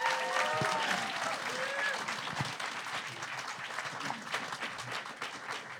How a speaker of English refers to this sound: You've all made amazing points here today, and I think if everyone would like to give our debaters a round of applause.